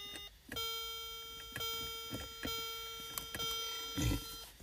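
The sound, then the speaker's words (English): A contestant's game show buzzer melody in a wrestling trivia game plays as a bright, sustained electronic tone with rich harmonics for about three and a half seconds, punctuated by sharp clicks and thumps, with no talking. “All right, and just for the audience, just for shits and giggles, Matt, give me the buzzer.”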